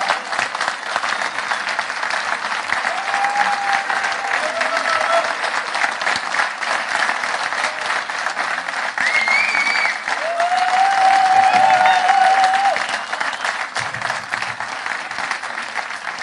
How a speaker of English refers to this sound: So let's give them a big round of applause, ladies and gentlemen.